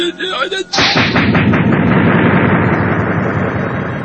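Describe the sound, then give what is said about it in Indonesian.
A single sudden, thunderous whip-crack explosion bursts out loud, then rolls into a long, rumbling echo that slowly fades away. “Getaran suara dari ledakan cambuknya meledak menggelegar, menunjukkan ia telah menguasai tenaga cadangan yang mengendap di dalam tubuhnya.”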